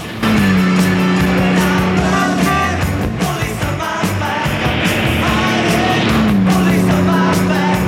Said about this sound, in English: A red car races through a tunnel.